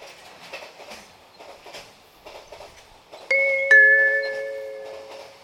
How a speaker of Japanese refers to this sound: 1番線に下り列車が参ります。黄色い線まで下がってお待ちください。